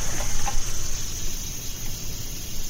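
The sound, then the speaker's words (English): A radiator in a house gives off a steady, thin high-pitched hiss with a faint cricket-like chirping quality, holding at an even moderate level over a soft low rumble, with no voices. “This one sounds a bit more like crickets.”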